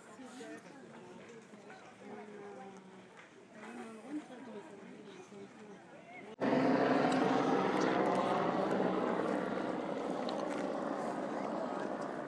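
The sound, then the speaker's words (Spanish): A small propeller plane drones loudly overhead as it passes over a Greek theatre, its steady buzzing engine cutting in abruptly halfway through and holding strong to the end, after a stretch of quieter murmuring voices. “Acaba de pasar un avión, una avioneta por aquí encima del teatro.”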